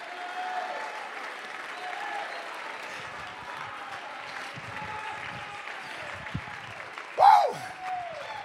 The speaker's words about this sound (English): Come on, clap your hands. Shout unto the Lord. Shout unto God. Shout unto God.